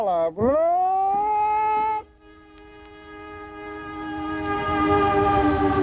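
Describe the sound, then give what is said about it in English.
An Amtrak passenger train leaving the Oakland, California terminal for Washington, D.C. with some 75 passengers sounds a long, loud horn blast that swoops up and holds steady, then a fainter sustained tone carries on as rumbling movement gradually builds. “The mood was festive aboard the Amtrak Freedom Train as it left the Oakland, California terminal, carrying some 75 lesbians and gay men to Sunday's National March on Washington for lesbian and gay rights.”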